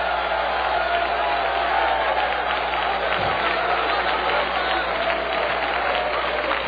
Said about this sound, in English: You know what the Bible said? The Bible said, clap your hands, all you people, and make a joyful noise to the Lord. I hope we never lose that.